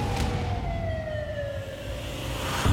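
An ambulance siren wails with a steady tone that slowly slides lower in pitch, fairly loud over a constant rumble of street traffic, with no one speaking.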